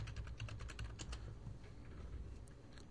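Rapid clicking of fingers typing on a computer keyboard, busy at first and then thinning out to scattered keystrokes, fairly quiet over a steady low background hum.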